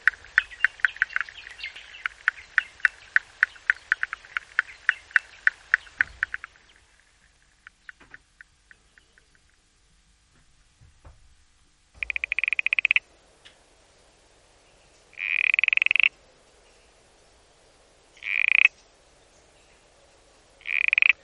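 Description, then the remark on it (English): A moss froglet (Bryobatrachus nimbus) calls: a rapid train of clicking pulses for about six seconds, then after a quiet gap several loud, sustained buzzing notes repeated every few seconds. No voices. “Bryobatrachus nimbus, the moss froglet.”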